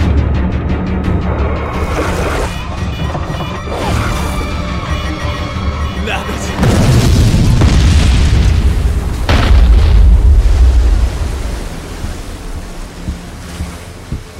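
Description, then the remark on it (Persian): A deep, rumbling underwater boom from a torpedo striking a submarine swells around the middle, with churning water and low roar continuing afterward; a second heavy, loud surge follows near the end. “همگی آماده برخورد باشید. لعنتی، ضربه خوردی.”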